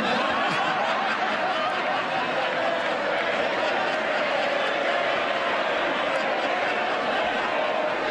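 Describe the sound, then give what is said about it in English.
A large crowd in the House of Commons chamber erupts in steady applause mixed with laughter and murmuring, a dense, even roar that holds for about eight seconds without fading. “Applause in the House of Commons there for Keir Starmer's not entirely unprepared order, gag”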